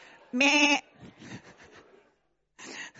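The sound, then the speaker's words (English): A loud, wavering baa opens, followed by a scattered murmur of fainter bleats from several voices, then a brief pause and one more bleat; people imitating sheep. “I'm not hearing any bars here.”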